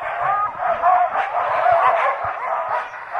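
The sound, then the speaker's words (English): A pack of sled dogs barks and yelps all at once in a loud, continuous, overlapping chorus of excited yips and howls, with no talking. “A huge benefit to the North Country is tourism, ranging from dog sled rides to hiking.”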